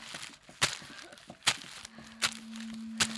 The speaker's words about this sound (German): Kaum hatten sie den Leuchtturm verlassen, hörten sie Schritte hinter sich.